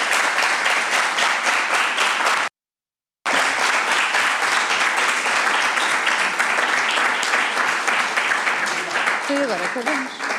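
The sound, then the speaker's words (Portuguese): Members of parliament in a parliamentary committee meeting applaud, congratulating one another, in a dense, steady wash of many hands clapping, cut by a brief moment of silence before the loud applause resumes and carries on to the end. “Bem, senhoras e senhores deputados, este momento de palmas nas comissões não foi regimental.”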